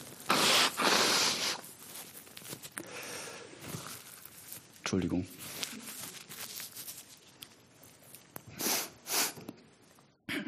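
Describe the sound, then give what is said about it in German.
Someone blows their nose into a tissue, with loud breathy bursts and paper crinkling between them, ending in a couple of sharp sniffs. A short spoken word comes midway. “Mal kurz die Nase putzen.”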